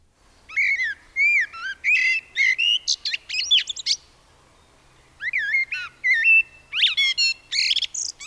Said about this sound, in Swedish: Eller, ja, men nu vill jag höra den. Nu vill jag höra den. Här kommer kol-trasten.